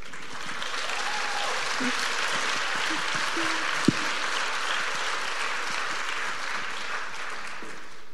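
Steady, sustained applause from an audience fills the whole stretch, a dense wash of clapping at an even level with a single sharp clap standing out midway.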